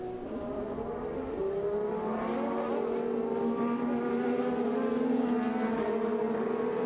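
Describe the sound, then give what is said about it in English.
A race car engine, Hinch's car coming up the hill off turn 8 of the track, drones steadily, its pitch climbing slowly as it accelerates. The sound is continuous and fairly loud, with no voices. “just got the car sideways coming up the hill off of 8”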